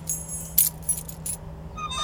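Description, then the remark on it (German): Bright metallic jangling of a set of keys as they are handed over, several quick clinks in irregular bursts, over a low steady engine-like hum. “Gib mir mal den Schlüssel”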